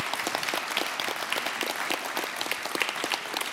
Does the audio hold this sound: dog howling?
no